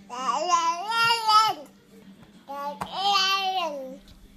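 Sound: baby babbling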